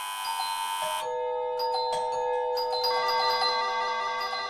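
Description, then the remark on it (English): An electronic doorbell, set off by a slug crawling over the sensors of the door entry panel, rings over and over, its bright chiming tones stacking and overlapping into a loud, continuous jangle with fresh rings starting every second or so, no voices. “And this naked snail was traversing the door entry panel where the bells were and leaving a lovely slime trail as it crawled over the sensors.”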